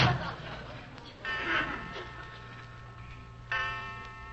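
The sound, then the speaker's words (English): A clock striking twelve o'clock sounds two bright, ringing chime strikes about two seconds apart, each lingering and fading over a low background hum. “listen. 12 o'clock.”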